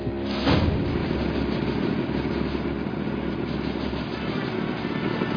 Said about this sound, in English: Cut the engine. It's making too much noise.